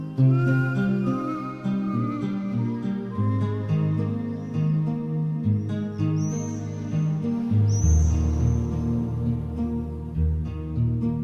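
A pop song's instrumental intro plays steadily and fairly loud, with sustained keyboard-like chords and bass, while high bird chirps and tweets flutter over the music. No one speaks.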